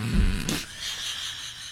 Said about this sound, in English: Yep. We know what it is. She'd farted. Yeah, we'd been together for a couple years, and this was the first peep I had heard from her derriere. The peep from her derriere.